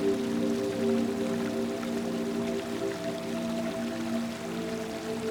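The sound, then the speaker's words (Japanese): Continuous watery rushing and bubbling of a stream in a forest, running over rocks and breaking against them as it flows into a lake, steady and fairly close throughout, with a soft sustained tonal hum blended underneath and no voices. “すぐそばには小川が流れ、水が泡立っています。その流れが岩に当たって砕けながら湖へと注ぎ込んでいます。”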